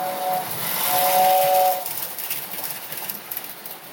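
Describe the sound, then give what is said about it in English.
A Lionel toy train set's steam whistle sounds in two bright, steady tones, one short and one longer, over a breathy hiss of steam that lingers and fades after the whistle stops. “Yeah, I mean, 37 years old and I'm downstairs with a Lionel train set.”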